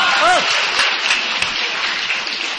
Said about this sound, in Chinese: 您各位刚才还鼓掌啊？就这玩意儿谁不会？真是掌声，你听着，好听着。